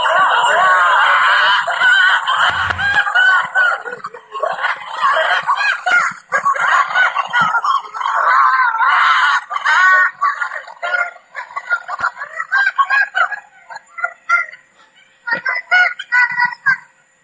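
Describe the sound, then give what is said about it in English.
A pack of six wolves, two parents and four pups, howling together, recorded in August: a loud, chaotic chorus of wavering, overlapping howls with high squeaky yips and yelps, carrying on for about seventeen seconds with brief breaks toward the end. “that is six wolves, two parents and four puppies trying to howl”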